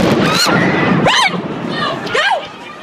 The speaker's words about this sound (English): Here's sound of that second explosion captured from on a YouTube video. Whoa! Something just blew up!